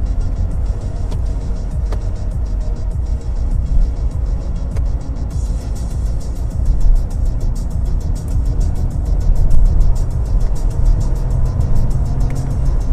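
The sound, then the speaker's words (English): A car engine roars continuously as the car, on Continental ProContact tires, is driven hard in its sportiest mode for testing, the loud low rumble swelling and surging as it's pushed, with road noise and faint clicks throughout and no one speaking. “Okay, we're gonna do some testing on this car now.”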